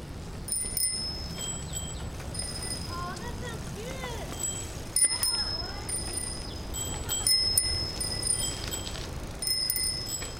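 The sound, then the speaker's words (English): Children ring bicycle bells again and again while riding on a morning ride, several bright chimes overlapping at irregular moments as they roll along, with steady outdoor road noise and faint voices in the background. “Along the way, the children chime their bells and point out various things like a gray squirrel chaotically scrambling out of the way and a flock of sparrows roosting under an eave.”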